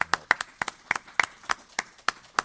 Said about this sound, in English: Shows like this don't just happen overnight. It's a lot of planning in the works, and without the enthusiastic help and support of all of you, it wouldn't be possible. So I want to have a round of applause for all the volunteers.